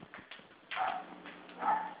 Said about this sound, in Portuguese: Só um minutinho, meu querido, que eu vou prender aquele cachorro que eu não estou entendendo nada.